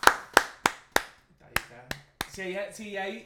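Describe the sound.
Seven sharp, loud hand claps, fairly evenly spaced at first and then slower, with a voice starting right after the last one.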